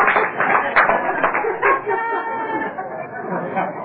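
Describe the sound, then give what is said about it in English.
A small group applauds with a steady, dense patter of clapping for a few seconds, mixed with murmuring voices and a few whoops as the clapping thins toward the end. “I said a little applause.”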